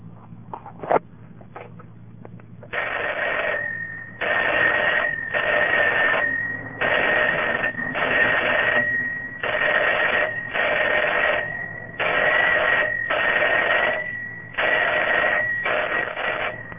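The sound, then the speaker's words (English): An odd telephone ringback tone, heard after dialing 3355, plays in an irregular pattern of short and long bursts, a steady tonal buzz switching on and off repeatedly with brief gaps, heard alone over a low hum. “The two other digits determine what you'll hear on your ringback, like what pattern you'll hear.”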